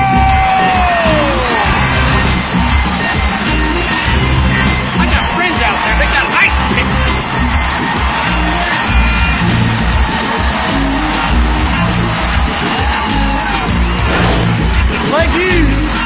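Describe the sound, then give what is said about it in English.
A large late-night TV talk show audience cheers and whoops loudly and continuously as a singer is introduced, with scattered yells and shouts rising out of a dense, roaring wash of noise that never lets up. “Great crowd we got tonight, hey.”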